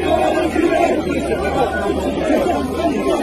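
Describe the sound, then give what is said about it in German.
A large crowd boos French President Macron loudly and continuously during a spontaneous walkabout among them, many voices merging into a dense, steady roar of jeers and shouts, with no pause over the few seconds. “Bei einem spontanen Bad in der Menge wurde Macron ausgebuht.”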